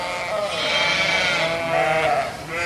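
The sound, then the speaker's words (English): Several ewes bleat over one another in a continuous, nasal chorus, loud, with overlapping calls filling a busy sheep tent at a fair holding a few dozen pens of animals. “The sheep tent holds a few dozen pens of animals, and the fences are low enough that you can get a good look at those ladies making all the noise.”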